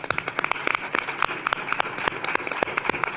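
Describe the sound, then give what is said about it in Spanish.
An audience applauds in a steady patter of many overlapping hand claps, dense and moderately loud throughout, with a few sharper individual claps standing out and no voices. “Bueno, pero yo aplaudo a vosotras.”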